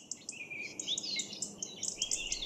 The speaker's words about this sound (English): Birds like these are the opposite of noise pollution for me. I love birds, but often their cheerful chirping and warbling can be cut short by noise pollution.